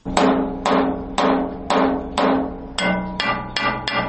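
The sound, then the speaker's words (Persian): An Afghan worker's blacksmith hammer, at work in Kabul, Afghanistan, rings on metal in a steady rhythm: about nine sharp, bright strikes with ringing overtones that decay between blows, loud and with no voices. “این صدای چکش ضیاءالرحمن یکی از کارگران افغان است که از صبح تا شب مصروف آهنگری در شهر کابل است.”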